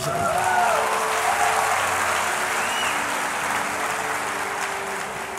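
An audience claps in a dense, sustained burst of applause that stays strong throughout, easing only slightly toward the end, with a few faint whoops or cheers mixed in.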